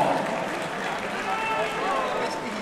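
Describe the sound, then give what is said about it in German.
An audience claps steadily for a few seconds for two fighters after a bout that ended in a draw, a dense, even wash of hand claps at constant loudness, with some crowd voices mixed in underneath. “Und nochmal einen großen Applaus für beide Kämpfer.”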